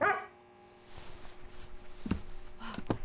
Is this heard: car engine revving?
no